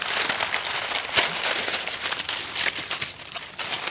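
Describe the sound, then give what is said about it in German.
Dense, continuous rustling and crinkling of dry woven material from a large woven human-sized nest about 3 meters across, lying on a parquet floor in a hospital chapel in Leverkusen-Opladen, Germany, fairly loud, with brief sharper crackles scattered throughout and no voices. “Das, was da raschelt, ist kein Vogelnest, sondern ein Menschennest.”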